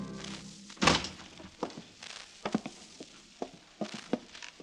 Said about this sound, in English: Zapt drew the bar and opened the heavy walnut door.